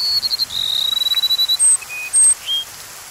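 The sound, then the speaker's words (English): A rufous-winged sparrow sings a few thin introductory notes, then a fast, accelerating high trill, followed by several separate clear whistles, heard alone against a soft outdoor hiss. “And a rufous-winged sparrow voices its gentle melody.”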